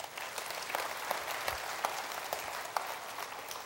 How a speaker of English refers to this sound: And I thank God there were 523 people who signed up for one-to-one. That's huge. I believe the Lord deserves a round of applause for that.